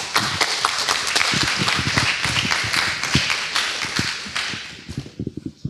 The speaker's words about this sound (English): Thank you. That was a feeble clap.